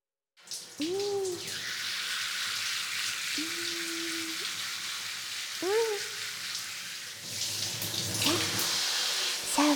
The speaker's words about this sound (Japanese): だから、 あ、じゃない、シャワー、シャンプー、洗い流さなきゃですね。